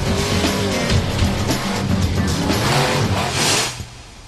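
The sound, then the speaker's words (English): A methane-powered, supercharged monster truck engine roars continuously, revving and rumbling with deep low-end growl and a burst of high-pitched noise near the end before it cuts off. “Today, they're methane-powered and supercharged. They can rip stuff, crush stuff, the meanest mothers on wheels.”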